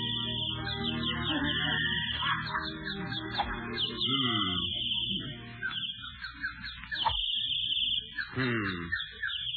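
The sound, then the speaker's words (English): Birds chirp and trill steadily throughout on a country club golf course, a dense run of high, overlapping calls with lower tonal sounds underneath and no talking. “Damn those birds. I wish they'd stop singing.”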